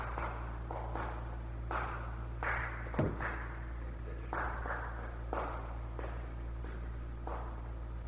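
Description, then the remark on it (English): Hands clap out the uneven rhythm of a hymn tune called Cooper or Cowper, for "There is a fountain", a string of quick and held beats with one sharper, louder clap partway through, over a steady low hum and no talking. “Second tune, who can clap it?”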